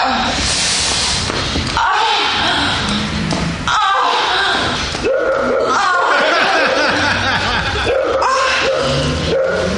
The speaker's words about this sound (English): Fucking dog barking.